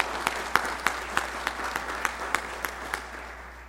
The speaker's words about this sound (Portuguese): O cerimonial gostaria de agradecer a presença do vereador Juarez Tudo Azul, do Conselho Curador da Fundação ABC. Uma salva de palmas para o vereador Juarez Tudo Azul.